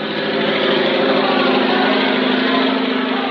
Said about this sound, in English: Louis Blériot, the French flyer, is crossing the channel in his aeroplane.